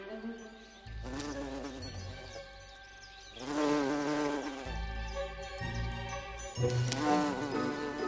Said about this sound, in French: Dès le petit matin, au tout début du printemps ou à la fin de l'automne, quand il fait trop froid pour les abeilles à miel, les bourdons sont dehors en train de voler de fleur en fleur, de butiner.